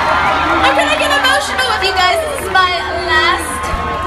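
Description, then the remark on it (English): A large crowd in Blackpool booing loudly and steadily after being greeted as Birmingham, many voices blending into a long, wavering jeer that swells and dips in pitch for about four seconds without a break. “I love the fact that she's going with, I'm getting emotional, and the crowd goes, boo.”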